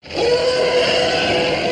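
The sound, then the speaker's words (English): Elephants roar loudly in a clip from the 1958 movie The Roots of Heaven, taken from the Fox sound library: a harsh, brassy blare that bursts in almost at once and holds steady for nearly two seconds, unbroken, with no talking. “Here's a clip of some elephants from the 1958 movie The Roots of Heaven.”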